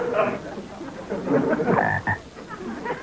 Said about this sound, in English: Oh, goody, another frog.